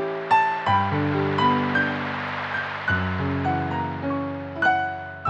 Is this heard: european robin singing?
no